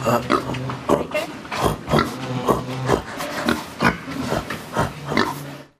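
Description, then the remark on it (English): A person imitates a pig, letting out a rapid string of nasal oinks and snorty grunts, fairly loud, about ten bursts in a choppy rhythm with no other talk. “learning how to speak like a pig really helps, because you won't know what the other one's saying back to you”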